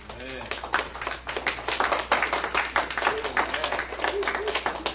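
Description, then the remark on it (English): A crowd claps steadily in dense, continuous applause for a musician, lasting several seconds, with some faint voices mixed beneath the rapid overlapping hand claps. “A round of applause for”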